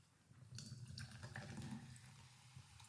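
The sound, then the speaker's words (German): Cola Zero fizzing in a glass placed right next to the microphone: a steady liquid rush with a dense crackle of tiny bursting bubbles, fairly loud and continuous, no voices. “Boah, schönes Geräusch. Ich stelle es hier mal direkt neben das Mikrofon, damit man es auch hört.”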